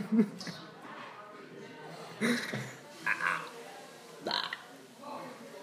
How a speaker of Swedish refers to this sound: Rapar du, sen röst av rapen.